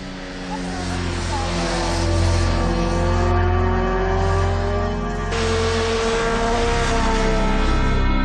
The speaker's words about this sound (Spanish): Vicente ha grabado muchas concentraciones y carreras ilegales de motos